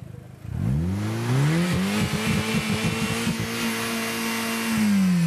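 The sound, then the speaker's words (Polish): A loud test engine is revved hard by a university rector at a Science Day, its pitch climbing quickly then holding at a steady high roar with slight wavering before easing off near the end. “Tak, każdy chciałby sobie tak bezkarnie przygazować, więc tutaj jest możliwość na takim próbnym silniku.”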